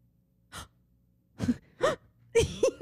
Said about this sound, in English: The first time I ever saw the gasp. Did you gasp? Yeah. I was like, because they don't put it in the soundtrack. And I was like, which makes it even better.